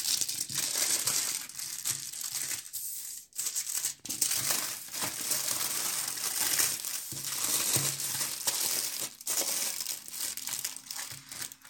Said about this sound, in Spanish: Después de haber envuelto el celular número 2 en doble papel aluminio, vamos a repetir la marcación para identificar que las ondas electromagnéticas no llegan a él debido a la jaula de Faraday que se genera debido al papel aluminio.